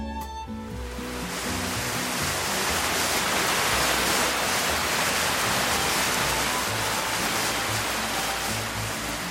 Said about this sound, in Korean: 구절리에서 안쪽으로 깊숙이 들어가면 오장폭포가 나온다. 오장산의 까마득한 낭떠러지를 타고 송천으로 떨어지는 폭포인데 길이 209m로 전국에서 가장 긴 인공폭포다. 석회지를 머금고 있어 초록 물빛을 띈다.